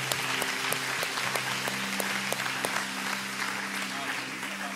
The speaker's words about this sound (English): Come on, amen. Give me one more hand clap of praise.